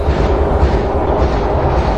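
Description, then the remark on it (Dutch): A metro train rolls past on the Schravenweg, as heard from a resident's garden, with a loud, steady low-pitched roar and rumble that holds evenly for about two seconds, with no voices over it. “Dit is het geluid wat mevrouw Katsburg de hele dag door hoort wanneer ze in haar tuin zit, hier aan de Schravenweg.”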